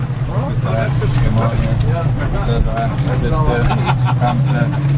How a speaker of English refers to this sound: A 16-foot whaler carrying a team of divers plows through the choppy waters off Saadiyat Island, a sandy man-made landmass just north of Abu Dhabi City.